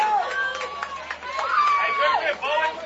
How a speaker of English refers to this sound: Oh, and Bowen Riley puts this one into center field. Crushes that one, and it drops, giving Bowen Riley a leadoff single. And this crowd has come alive here in Washington County.